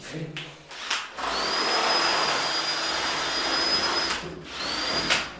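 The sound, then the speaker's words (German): A power drill whirs steadily as it drills another hole for about three seconds, its high motor whine holding a constant pitch, then stops and briefly starts again after some short knocks and rustling. “Ich habe ja jetzt schon einige Löcher gebohrt, also da ist nur Luft, nichts als Luft. Ja, komm, bohr nochmal.”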